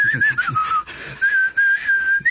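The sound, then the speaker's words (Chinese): Someone whistles a short melodic tune, a clear sustained pitch that glides and wavers between notes in a few connected phrases, with brief pauses between them. In a told story, this is Xu Huang whistling beside a telephone pole outside the city wall of Fancheng. “等到徐晃把这个口哨声吹完啊，只听见隔壁第八根电线杆旁边也有一个戴着墨镜的人在吹同样的口哨声。”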